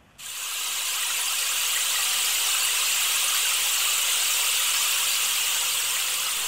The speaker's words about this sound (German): Also ich finde, es klingt eindeutig nach Regen. Absolut. Das war ein Regenmacher. So ein Rohr. Ja, kenne ich. Wo drin so Kieseln sind und dann dreht man den immer hin und her. Gehört auch zu den Schlaginstrumenten.